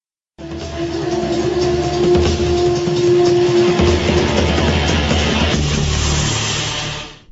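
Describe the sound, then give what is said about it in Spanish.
A car engine runs loudly and steadily for several seconds, a low rumbling drone with a faint tonal whine on top, then cuts off abruptly. No one speaks. “Fíjate el carro que tengo.”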